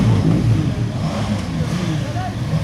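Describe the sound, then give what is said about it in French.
A motorcycle engine revs with a deep, throaty rumble that rises and falls steadily for a few seconds, loud, with a voice speaking over it. “10e édition de la fameuse balade en moto.”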